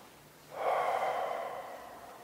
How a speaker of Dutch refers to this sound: En kijk hoe het is om een paar keer gewoon heel rustig, het hoeft niet zo diep, maar wat dieper adem te halen. Want ook de ademhaling is buitengewoon behulpzaam.